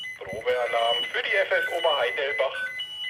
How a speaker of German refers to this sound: Das ist der neue Funkmeldempfänger, der geht über digital. Jeder Feuerwehr hat einen Piepston. Man kennt das auch mittlerweile, wenn es nach Pieps, also wer dran ist. Und das war das Signal für Oberheidelbach.